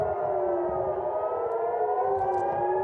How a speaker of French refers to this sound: 22h ce samedi à Jérusalem, des détonations retentissent dans la ville. Quelques instants plus tard, les sirènes d'alerte ordonnent aux habitants de rentrer chez eux.